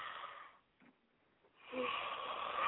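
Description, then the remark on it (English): A long, breathy yawn from a tired woman heard through a phone line, drawn out over a couple of seconds with a brief quiet pause and ending in a faint rising vocal whine. “This girl is yawning into the phone.”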